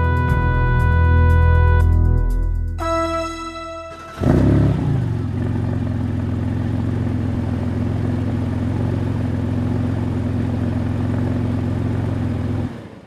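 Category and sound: vehicle, car engine revving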